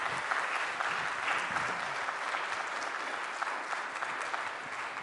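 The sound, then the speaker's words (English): An audience at a church service applauds steadily after the speaker announces he has completed his degree at Asbury Seminary, a dense wash of many hands clapping at an even level for about five seconds, with no voices rising above it. “I'm not saying that for applause.”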